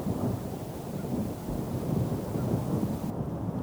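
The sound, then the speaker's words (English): A low, drawn-out rumble of thunder from the southern ridge, from a storm moving across the hills, rolls on steadily without a break, deep and heavy, with a faint hiss of rain or wind beneath it. “Then, from the southern ridge, a low, drawn-out rumbling.”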